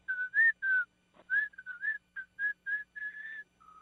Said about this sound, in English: Can't believe you don't know how to whistle.